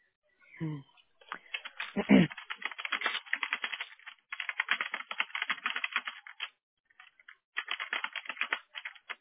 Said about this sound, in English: They're typing.